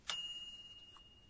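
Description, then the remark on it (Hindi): A single bright microwave timer ding: one struck, high metallic tone that rings on and slowly fades. Fairly soft, with no voices. “ये माइक्रोवेव का टाइमर बंद होने की आवाज है।”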